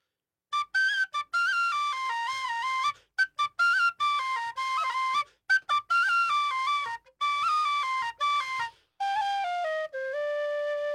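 A tin whistle is played live in a radio studio for a St. Patrick's Day celebration, a lively, ornamented melody with quick note changes and short breaths between phrases, ending on a long sustained note; no one speaks.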